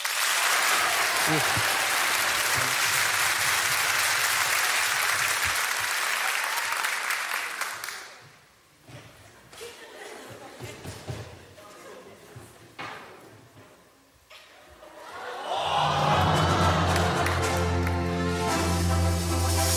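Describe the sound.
A crowd bursts into loud, dense applause that thins to scattered claps and murmurs, then swells again as voices cheer and shout over the clapping.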